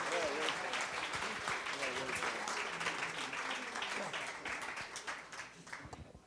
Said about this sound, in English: Church, let's give these guys a hand clap. Say welcome to the ministry.